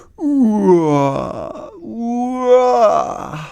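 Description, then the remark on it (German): Two long, drawn-out voiced yawns follow one another, each a loud moaning sound that starts high and slides downward in pitch, with no talking around them, from someone tired walking along a footpath, the Farnhornweg, near the Volksparkstadion. “Und nun, beim Fußweg, den Farnhornweg entlang, muss … ständig gähnen.”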